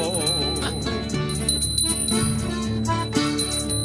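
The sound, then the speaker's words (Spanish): Sanctuary church bells toll with a bright, metallic clang, layered into a steady stretch of music that keeps going at an even loudness throughout, with no voices heard. “Ya las campanas del santuario están doblando.”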